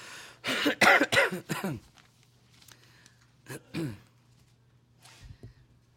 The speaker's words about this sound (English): I desire a strong interest in your prayer today because, for one, I'm somewhat puny, more so than usual. My voice, I pray that it'll hold out and that maybe the coughing will be minimal and not much of a distraction today.